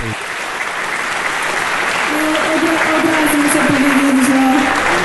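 Sustained audience applause, a dense steady wash of clapping hands that holds loud throughout, with some faint voices mixed underneath.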